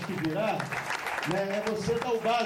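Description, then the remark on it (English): Steady applause at a plaque unveiling, with dense, continuous clapping, mixed with loud voices calling out over it throughout the short stretch. “Here's the plaque, so applause now.”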